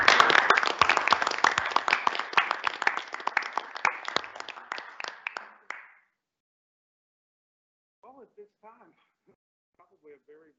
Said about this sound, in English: On behalf of NIU, thank you to all of these faculty members for their years of service to our students, to their disciplines, and to the community of scholars. Please join me in a round of applause for our emeriti faculty.